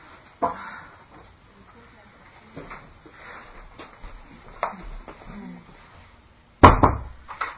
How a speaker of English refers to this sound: Close this door